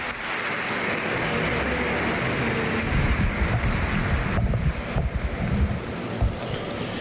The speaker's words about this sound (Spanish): Aplaudiments per les paraules de Salvador Pieninot, rector de la Basílica de Santa Maria del Mar, que acull aquesta Eucaristia.